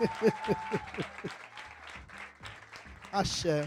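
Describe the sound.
A round of applause from a group for a guest speaker at a talk on the history of Umbanda, a dense patter of clapping with voices speaking and calling out over it, swelling louder again near the end.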